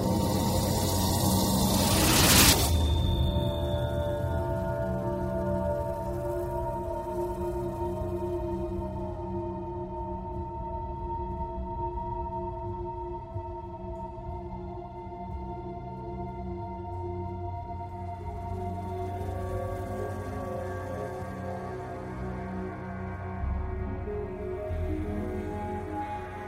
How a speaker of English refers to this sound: I pressed play on the voicemail and held the phone up to my ear, and all I heard was a continuous, low-pitched whistle.